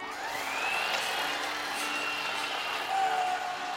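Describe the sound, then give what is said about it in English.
A toy car received for Christmas zooms along with a steady, bright motor whine that rises and dips in pitch, fairly loud, lasting a few seconds with no talking. “Look, I got a car for Christmas.”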